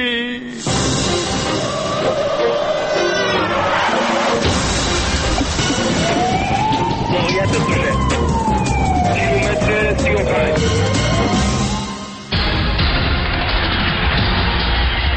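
An ambulance siren wails loudly, its tone sweeping slowly up and back down, set against a dense, busy wash of noise that cuts off abruptly near the end. Emergency services are taking a person who fainted to hospital in the ambulance.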